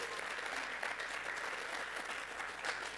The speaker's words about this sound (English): Well, our nation's birthday is Tuesday, and we will be 247 years old. That is worth another round of applause.